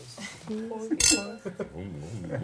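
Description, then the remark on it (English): A single bright clink of glasses rings out sharply near the middle in a toast, surrounded by several people talking and cheering. “Zum Wohl, sehr freut Gesellen. Prost.”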